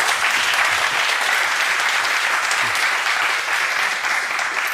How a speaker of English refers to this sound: Make sure to give him a round of applause.